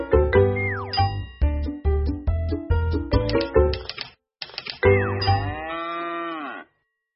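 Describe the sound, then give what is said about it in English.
Rapid typewriter keys clack in a busy, uneven rhythm with a bright carriage bell ding, while a low, drawn-out cow moo sounds at the start and again after a brief pause: sound effects for the picture book Click, Clack, Moo: Cows That Type. “His cows like to type. All day long he hears click, clack, moo.”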